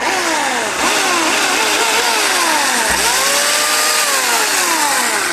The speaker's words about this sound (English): All right, let's hear that chainsaw one more time.